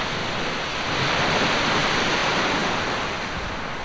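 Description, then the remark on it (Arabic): A steady, broad roar of ocean surf swells gently and recedes over a few seconds, a continuous wash of water noise with no distinct breaks and no voices. “وكان الموج قد أنهى حوارهما قبل أن يتم.”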